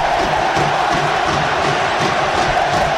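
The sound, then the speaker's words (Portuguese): A dense roar of Bahia football fans shouting in a stadium, loud and continuous with rhythmic surges, many voices blending into one wall of crowd noise. “Temos os gritos da torcida aí, ó.”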